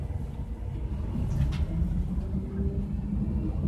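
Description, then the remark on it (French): A steady low rumble of a moving bus on a long early-morning ride at dawn, with engine drone and road noise throughout and a brief faint rattle partway through, no voices. “Comme à tant d'autres, un long trajet en bus m'attend.”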